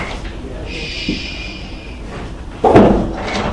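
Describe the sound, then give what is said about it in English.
A door is opened with a single solid clunk and brief rattle partway through, set against steady room noise and a faint high-pitched hum. “Yeah, can you open the door there for a second?”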